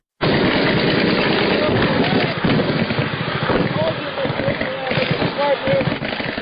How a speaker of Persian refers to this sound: صدای شلیک سلاح‌های سبک و سنگین در جنگ شب و روز در اطراف و داخل شهر شنیده می شود.